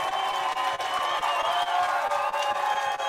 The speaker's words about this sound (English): Let's give him a round of applause, everyone that's here.